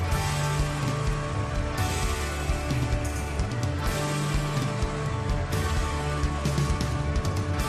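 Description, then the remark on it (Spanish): A large crowd claps and cheers on a live album recording, a dense, continuous wash of applause that holds steady for several seconds, with faint low tones sustained underneath. “En cuanto has empezado a escuchar los aplausos, se te ha iluminado la cara.”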